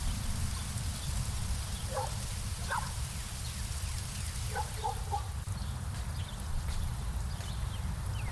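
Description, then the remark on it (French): Steady, heavy rain in June pours down without a break, a dense hiss with a low rumble beneath it. A few faint, brief tones surface twice through the downpour. No one speaks. “Et puis c'est quoi ce temps pourri encore?”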